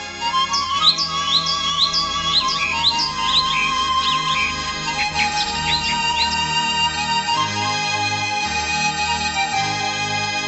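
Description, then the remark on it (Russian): A flock of birds chirps and tweets busily, many overlapping high calls in quick bursts, steady, over a low ambient hum with no talking. “Стаи птиц пролетали над поселком, щебеча и радуясь весне.”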